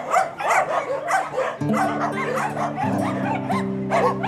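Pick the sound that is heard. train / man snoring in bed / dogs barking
dogs barking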